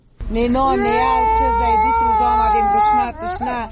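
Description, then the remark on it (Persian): A young child cries loudly from hunger, one long wavering wail that breaks off briefly before another sob starts; the child of a displaced woman from Kunduz, among families recently displaced from northern Afghanistan to Kabul. “41 ساله کندوزی زن آواره‌ای که گریه کودک 30 سالش از گرسنگی مجال صحبت را نمیدهد”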